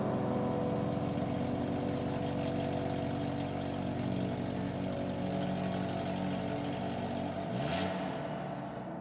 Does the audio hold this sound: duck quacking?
no